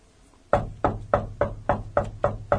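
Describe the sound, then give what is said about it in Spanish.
A steady series of about eight firm knocks on a door, evenly spaced, each with a short woody resonance, following a brief quiet moment. No voices are heard. “Te están tocando la puerta.”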